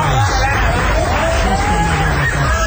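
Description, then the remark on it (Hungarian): A loud, dense hubbub of many overlapping voices chattering at once, continuous throughout with occasional higher calls rising above the din, filling the space. “És itt van az én tömegem.”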